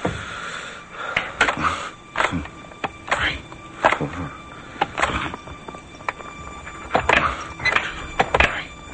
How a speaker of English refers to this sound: He closes the door and leans against it with his head bowed, then turns the lock.